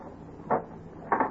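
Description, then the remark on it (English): A door is unlocked and opened: a short, solid clunk from the lock, then after a pause a second, doubled knock as the door swings open, with no talking. “Come in. Hurry. Why did you lock the door?”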